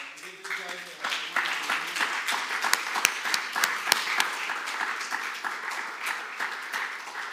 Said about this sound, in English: As we are witnessing a glorious day, yeah? I think we need to stand up and clap.